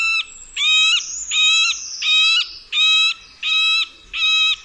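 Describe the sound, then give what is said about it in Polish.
A middle spotted woodpecker gives a slow series of six harsh, nasal squeaking calls, roughly two per second, each a steady whining note, loud with no other sounds. “Odzywa się powolną serią niezbyt przyjemnych, nosowych i skrzeczących jęków.”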